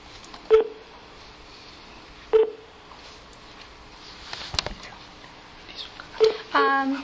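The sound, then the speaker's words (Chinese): Three short telephone keypad beeps, from a caller pressing the star key to call in to a live lecture's Q&A, sound at uneven intervals over a quiet, faintly noisy phone line, followed at the end by a brief burst of voice. “那接下来是我们 Q&A 的时间，如果您有问题您可以按星号键，按星号键您就会被接听到我们的讲座现场，我们就会按各位按星号键的先后次序接听您的电话。”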